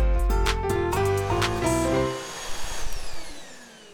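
A vacuum cleaner runs loud, its motor whine stepping up and down in pitch for about two seconds before spinning down into a fading, rattling hiss.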